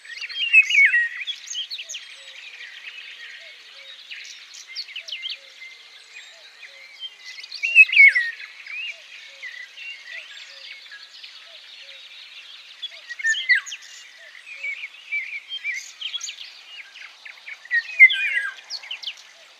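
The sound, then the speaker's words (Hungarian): Golden oriole song amid a busy outdoor bird chorus: bright chirps and whistled phrases overlap continuously, with brief louder bursts and no voices. “és hát a madárvilágban is azért sok érdekes faj megtalálható itt, színesebbek például a sárgarigó.”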